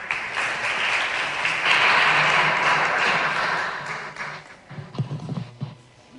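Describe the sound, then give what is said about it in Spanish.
An audience at a Copa de la Reina basketball event applauds Antonio de Torres, president of the Andalusian Basketball Federation, in a steady, dense wash of clapping that holds strong for about four seconds, then thins into scattered, sharper claps before fading out. “Un aplauso.”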